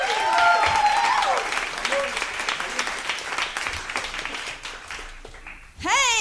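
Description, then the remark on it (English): An audience welcomes a stand-up comedian with loud, steady applause, whoops and a whistle woven through. The clapping gradually thins out before a brief rising cheer at the very end. “Woo, one clap and a lot of, all right.”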